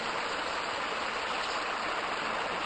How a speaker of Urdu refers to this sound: ٹھنڈا پانی ڈال.